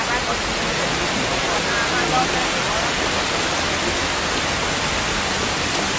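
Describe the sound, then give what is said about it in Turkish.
Steady, dense hiss of rain pouring down, an unbroken wash of noise that stays level and fairly loud throughout, with no distinct drops standing out. “Aya uğurlu ve bereketin müjdecisi çocuğunuz sayesinde bedana yağmur yağıyor.”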